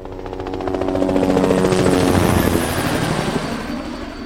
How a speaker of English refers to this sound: Helicopters now. Look, Rahim. Right above the building.